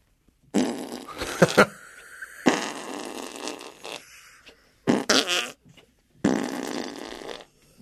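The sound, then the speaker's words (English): Four loud, wet armpit farts made by a grown man with his hand, each a sputtering burst lasting about a second, separated by short pauses, with no talking. “It's a grown man doing armpit farts.”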